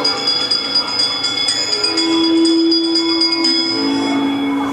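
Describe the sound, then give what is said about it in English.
A bell rings steadily and loudly, its clear metallic tones sustaining and overlapping through a hum of resonance, with faint repeated strikes keeping the ringing going throughout. “us a hint by ringing a bell.”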